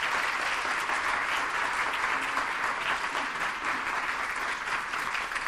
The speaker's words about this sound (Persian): من خواهش می‌کنم دوباره تشویقش کنم